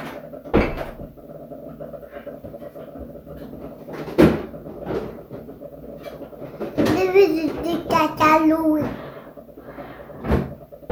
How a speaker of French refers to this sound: Où elle a mis le cantalou? On va regarder dans les tiroirs du frigo.